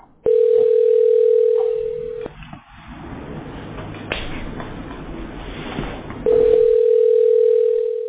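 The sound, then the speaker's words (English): An outgoing call to Steve's Roofing, a family-owned business, ringing on the line: two long, steady electronic ring tones a few seconds apart, clear, with faint low background rumble filling the gap between them. “Still ringing.”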